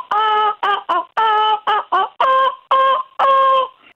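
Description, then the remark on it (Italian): A voice squawks the melody of Bella Ciao in seagull-like cries, about eight loud, nasal syllables in a steady rhythm, alone. “In tono un motivetto come fossi un gabbiano.”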